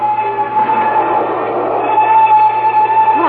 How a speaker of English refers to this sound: The train gains momentum.